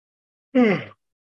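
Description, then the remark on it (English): A single short, voiced yawn, its pitch sliding downward before it fades, with silence before and after. “So I'll make sure to give thorough explanation for everything after I yawn.”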